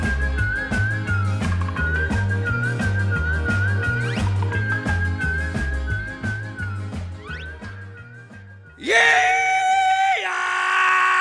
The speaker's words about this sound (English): Let me startle you. I'm just doing the rebel yell here to kind of kick things off.